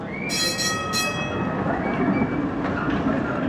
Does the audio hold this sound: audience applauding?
no